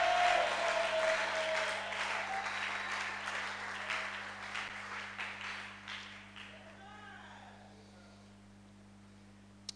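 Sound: audience clapping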